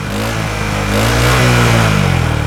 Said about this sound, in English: They're helping the dogs get comfortable around scooters. They help the dogs get used to the sounds of the scooter engine. This is so the dogs don't get scared when it goes vroom.